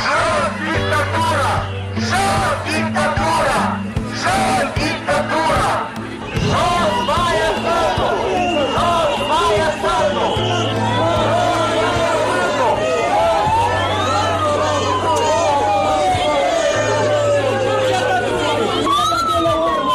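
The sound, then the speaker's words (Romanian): Busy outdoor crowd noise with many overlapping voices chattering and calling out, while sirens wail and sweep up and down and a low rhythmic drone pulses underneath; members and supporters of the Șor Party protest in front of Parliament, demanding the government's resignation. “s-au adunat să protesteze din nou membrii și simpatizanți ai Partidului Șor, cerând demisia guvernului”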